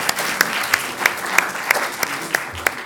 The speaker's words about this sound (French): Je remercie beaucoup nos deux intervenants que nous pouvons applaudir.